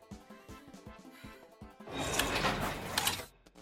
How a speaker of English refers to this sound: The elevator door started closing, blocking Monty's pursuit.